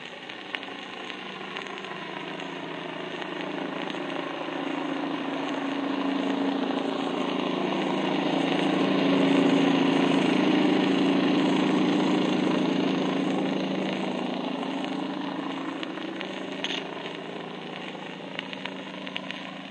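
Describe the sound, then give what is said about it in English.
A steady, droning surf landing boat engine runs continuously for about twenty seconds, swelling slightly louder in the middle, then easing back. No voices. “First, a surf landing boat.”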